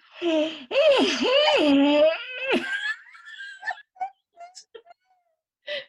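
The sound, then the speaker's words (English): A person imitates a loud, noisy yawn, a drawn-out voiced groan swooping up and down in pitch for a few seconds, then trailing off into faint squeaks and breathy bits. “he literally goes into like a yawn-a-thon. Yawn after yawn. So what? They're noisy.”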